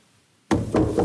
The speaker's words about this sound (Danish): Har I glemt, hvordan man banker på en dør?